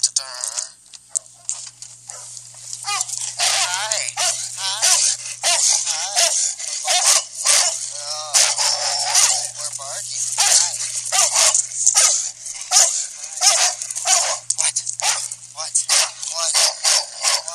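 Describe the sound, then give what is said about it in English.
Many dogs bark at once in a dense, nonstop chorus of overlapping yelps and barks, loud, with a low steady hum underneath, recorded on a phone set in a truck with the truck door left open. “these are dogs barking”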